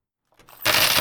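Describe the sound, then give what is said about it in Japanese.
A pile of small-change coins, including 100-yen coins, is dumped out onto a hard surface to be counted, starting with a few light clinks and swelling into a dense, loud jangling cascade of metal. “ねえ、お兄さん、小銭数えようよ。 ここに全部ぶちまけて。”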